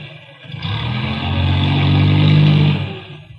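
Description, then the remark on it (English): A car engine rumbles as Carl Fortune's car pulls into his garage as he comes home, its low droning hum swelling louder and steady for a couple of seconds before cutting off abruptly. “Sounds like Carl missed the garage slightly.”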